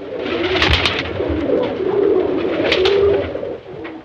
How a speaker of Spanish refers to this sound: palomas de un lado a otro.